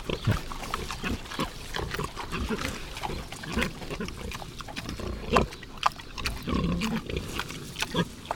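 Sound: iberian pigs grunting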